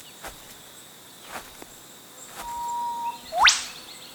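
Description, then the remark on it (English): An eastern whipbird calls once on a walk near Queeby Cave above the Coomera Valley: a long, steady whistled note ending in a sudden, loud, sharply rising whip-crack. A few faint taps, like footsteps, come before it, and no one speaks. “It sounds like the cracking of a whip, but there are no Jillaroos right up here. It's an eastern whipbird.”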